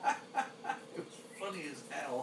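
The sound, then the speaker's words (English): A very noisy smoky bird calls out in four short, evenly spaced squawks, then shifts into longer, warbling, voice-like cries. The calls are loud and harsh, and no one speaks over them. “I just thought I'd give you a little burst of a very noisy smoky bird.”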